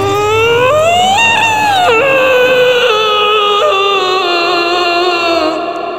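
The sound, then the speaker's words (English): A man screams in pain as a knife blade is punched into his wound, one long, loud, high-pitched wail that rises, wavers and cracks briefly, then holds steady for several seconds before cutting off, with no other voices. “His scream was the last thing Michael heard before he sank deeply into the ground, into a darkness which had no bottom.”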